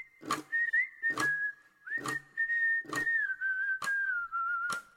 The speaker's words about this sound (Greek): Ουφ, σφυρίζουμε ανακουφισμένοι, καβαλάμε το ποδηλατάκι μας και πάμε μια βόλτα πριν παίξουμε μπαλά.